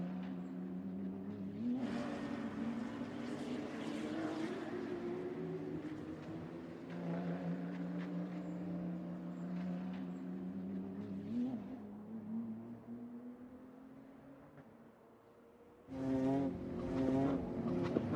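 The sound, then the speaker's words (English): Nancy's car, driven by Mr. Alinda in a race against time, its engine revving hard as it speeds along, pitch climbing and dropping through repeated gear shifts, then a louder, sharper burst of revving near the end, with no voices. “The rest of the news had him drive Nancy's car in a race against time.”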